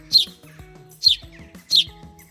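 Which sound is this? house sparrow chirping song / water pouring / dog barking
house sparrow chirping song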